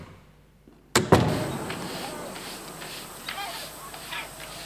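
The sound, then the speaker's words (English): An echoey door shuts with a sharp, heavy thud after a quiet start, and the sound rings out in a long reverberant tail. “Echoey type door, open and close. Door close first.”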